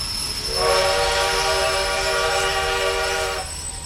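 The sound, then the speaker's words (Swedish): A train's brakes screech with a loud, sustained metallic squeal lasting about three seconds over a low rumble as the train halts at a station, then cut off abruptly. No one speaks. “Tågets bromsar har med ett gnisslande gjort halt vid en station och kylan från den mörka kvällen drar förbi utanför fönstret.”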